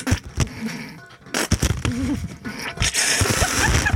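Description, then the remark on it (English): Water sprays in irregular hissing bursts, building into a steady, loud rush of spray near the end, with some brief voice-like sounds mixed in. “Right, they're just spraying for no reason now.”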